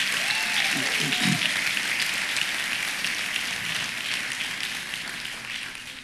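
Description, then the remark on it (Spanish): An audience applauds, with dense, steady clapping that fills all six seconds and eases slightly toward the end. A voice briefly rises over the applause near the start. “Dale un aplauso fuerte a eso.”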